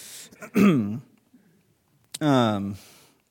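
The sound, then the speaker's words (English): Two throaty bursts of coughing and throat clearing from a speaker teaching a Bible passage, each with a sharp rough onset trailing into a voiced rasp, separated by a short quiet gap. “I do not have COVID. I feel like I have to say that every time I cough around anyone.”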